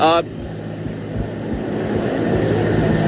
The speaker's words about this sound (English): That helicopter is, in fact, taking off. He was just circling around to get a better angle of attack on his takeoff.